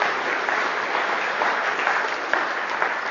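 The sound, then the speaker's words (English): A crowd applauds steadily, many hands clapping in a dense, continuous patter that stays fairly even in loudness throughout, full with no voices standing out. The audience claps for everyone's effort in making Mother's Day gifts. “I think we should give them all a clap for all their effort.”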